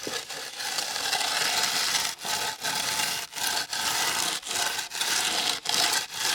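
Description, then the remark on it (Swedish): Workers rubbing small pads back and forth on mortar make a continuous gritty, hissing rasp, broken by brief pauses at each change of stroke, in a steady rhythm of roughly two strokes per second. No one speaks. “Och sen när de håller på och drar fram och tillbaka på sina små paddar här, så låter det så här.”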